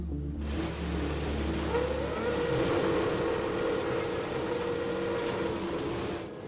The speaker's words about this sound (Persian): چراغ سبز و ماشینا میان بیرون برای ورود به پیست.